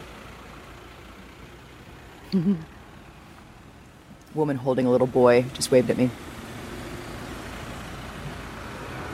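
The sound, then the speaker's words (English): A steady low rumble of idling car engines in a long traffic jam on the highway going west toward Lvov from Vinnytsia, cars packed with kids, animals and suitcases moving about 5 kilometers an hour, with a person speaking briefly over it near the middle before the engine drone carries on alone. “And we're in a line of cars as far as the eye can see on the highway going west toward Lvov from Vinnytsia.”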